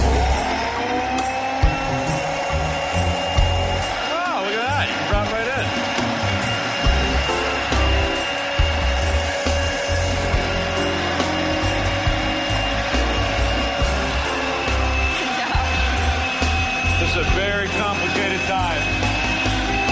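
blender running

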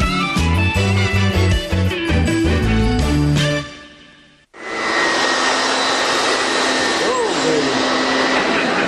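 vacuum cleaner running

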